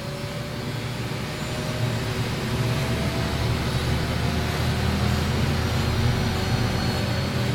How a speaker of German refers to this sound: Zweimal pro Woche lässt die MONUC einen russischen Hubschrauber die 80 Kilometer von Bunia nach Mongwalu fliegen.